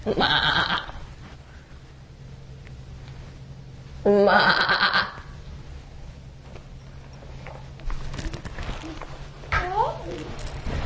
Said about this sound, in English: We'll see the animals today. What kind of animals will we see? A goat? A goat!